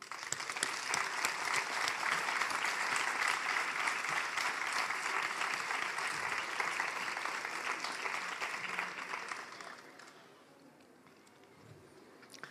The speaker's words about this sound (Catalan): Abans de començar, vull demanar pel mestre Requesens que tant com els voluntaris, tant com tots els que venen a treballar perquè aquesta festa no es perdi, es mereixen aquest aplaudiment.